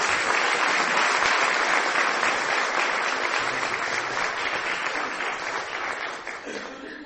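Sustained applause from a large audience welcoming a speaker one morning, a dense, steady wash of clapping that holds strong throughout and begins to thin out slightly toward the end.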